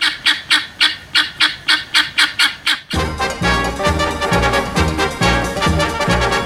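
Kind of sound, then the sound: bird, guinea fowl calling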